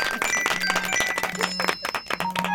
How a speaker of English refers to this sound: It's phone alerts about that stupid Indian soap opera. I do apologise.